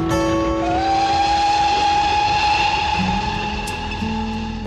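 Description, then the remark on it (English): A House of David miniature ride-on train rolls along, a steady loud rumble with sustained whistle-like tones ringing over it, no voices. “It also extended to trains, miniature ones that you could ride on.”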